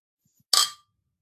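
Glasses of Ratsherrn Summer Ale beer clink together once in a toast, a bright chime that rings briefly and fades within a fraction of a second, with no voices around it.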